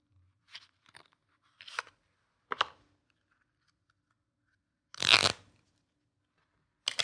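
A brand new deck of playing cards is unwrapped and opened: a handful of short papery crinkles and scrapes, with one longer, louder rustling burst near the end. No talking.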